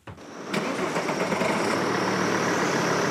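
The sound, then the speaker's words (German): A car engine cranks and starts in front of a hotel in central Berlin, then settles into a steady, fairly loud idle that continues without a break, before the car drives to Dahlem. Nobody speaks. “steigt vor seinem Hotel im Berliner Zentrum ins Auto und lässt sich nach Dahlem fahren, an die Freie Universität.”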